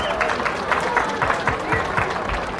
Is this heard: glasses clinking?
no